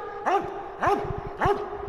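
A sniffer dog, trained in Madeira to detect Covid-19 from samples, gives three loud, evenly spaced barks about half a second apart, each short and yelpy, over a steady low background hum.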